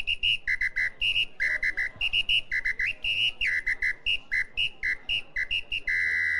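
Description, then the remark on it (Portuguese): A Peduá bird-call whistle, an ancient whistle of indigenous origin that imitates a bird and is used by some local hunters, trills in quick, bright bursts alternating between two pitches, chirping rapidly and continuously, ending on a longer held note. “O empresário explica que o Peduá é um apito que imita um pássaro.”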